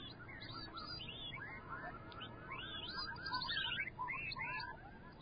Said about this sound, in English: Am I sensing a little owl in that whistling? Well, it's appropriate. It's an owl whistle.